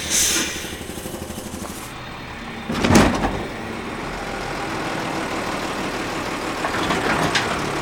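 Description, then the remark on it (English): A heavy garbage truck engine rumbles steadily in a narrow alley in Sheridan, Wyoming, on a sunny, chilly fall morning, while a loud mechanical clank and whine rises around the middle as its mechanical arm lifts a giant trash can and dumps it into the truck, then the idling continues. “his truck is picking up giant trash cans with a mechanical arm and dumping the contents into the truck”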